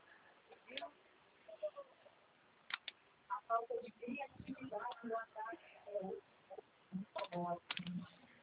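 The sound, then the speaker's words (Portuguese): Scattered sharp computer mouse clicks and a few keyboard taps come at irregular intervals while people talk quietly over them as one guides the other through filling in an online form, the line sounding thin and muffled. “Isso, clica aí. Espera aí.”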